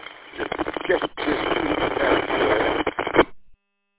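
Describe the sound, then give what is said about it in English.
A crackly radio transmission: a voice breaks through thick, hissing static for about three seconds, narrow and tinny, then cuts off abruptly into silence. “Now, that last transmission, a lot of that was static, but I heard bits and pieces.”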